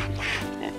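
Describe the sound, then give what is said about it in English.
A single short, nasal pig oink, fairly loud, with a buzzy low tone, heard on its own with no talking. “Ooh, a pig.”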